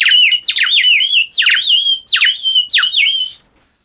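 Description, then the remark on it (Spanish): A rapid series of bright, high-pitched chirps and twittering calls, about half a dozen bursts in quick succession, loud with no talking, from a flock of swift, colorful small birds. “Una flota de veloces, pajaritos de colores.”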